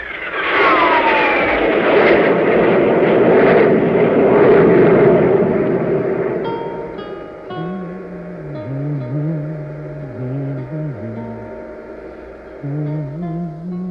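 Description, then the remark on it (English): A loud, broad engine roar swells for several seconds as a spaceship's jet drive is increased on all jets, then fades into a lower droning hum with wavering tones, settling into a steady thrum. “Increase the jet drive on all jets.”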